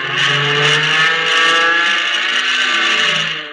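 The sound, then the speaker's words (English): A loud propeller plane engine roars steadily as the plane loops to get behind another aircraft, its strained, harmonic drone holding for several seconds with slight surges in pitch. No voices are heard. “I'm going to see if I can loop and get behind him.”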